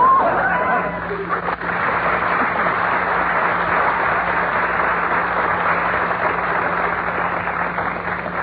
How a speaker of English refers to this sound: We find Bob still shopping in the department store. Be careful in this crowd